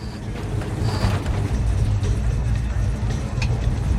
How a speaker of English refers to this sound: Ruth pulls her car into the yard. She reverses.